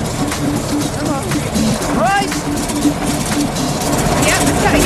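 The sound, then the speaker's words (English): Small petrol lawnmower engines, which two brothers are struggling to start, drone and sputter steadily throughout, a rough, uneven running noise with indistinct voices and a few high squeals mixed in around the middle. “Well, the techno teachers are off, but the brothers are having trouble starting their pesky lawnmower engines.”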